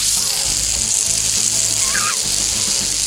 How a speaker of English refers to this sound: It's like frying bacon.